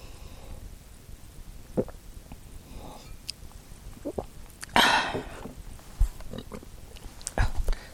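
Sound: slurping water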